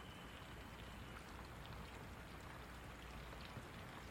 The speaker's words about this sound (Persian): صدای ضرب باران بر برگ‌ها تنین انداز است.